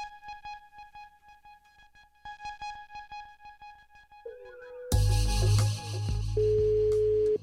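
A steady electronic ringback tone sounds in repeated pulses while an outgoing call to a man's new mobile phone number, dialled for the first time, waits to connect, then a sudden louder wash of noise breaks in near the end.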